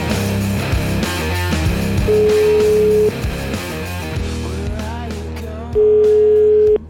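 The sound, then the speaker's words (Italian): Two long, steady ringback tones, each lasting about a second with a pause between, sound loudly over busy background music and voices as an outgoing phone call to Switzerland rings. “Telefonata ma in Svizzera, fermo lì.”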